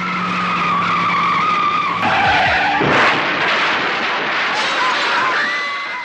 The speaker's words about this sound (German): Mit 120 km/h pflügte er mit seinem Mazda RX-7 durch parkende Autos und in die Menge und hinterließ dabei eine Spur der Verwüstung.